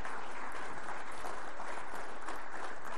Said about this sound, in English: I think a celebratory round of applause is very appropriate. You bet.